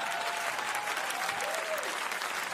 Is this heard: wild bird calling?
no